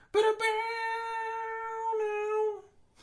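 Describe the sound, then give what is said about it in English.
A person makes a long, drawn-out meowing sound, holding one steady nasal pitch for about two seconds, a clumsy, tone-deaf attempt at humming the music from a theme park ride that comes out like a cat. “I was trying to do the music from the Indiana Jones ride, but I'm like too tone deaf, and I just kind of meowed”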